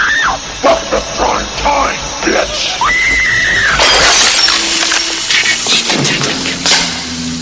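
A loud crash as a woman's head is smashed into a TV screen, glass shattering in a bright burst followed by seconds of scattered tinkling shards, after a few strained, wailing vocal cries.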